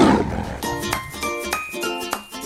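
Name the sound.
tiger roaring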